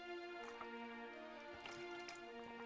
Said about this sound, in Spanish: Voy a hacer mi mítica pausa para beber agua que no voy a cortar porque cutre se nace.